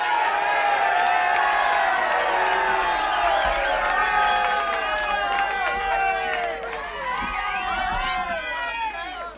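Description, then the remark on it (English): An audience cheers and applauds loudly and steadily for a performer being introduced, with many overlapping voices whooping and shouting over a continuous wash of clapping for about nine seconds. “Ladies and gentlemen, I want you to give a big, warm round of applause for the one and only, the man you've waited for all night,”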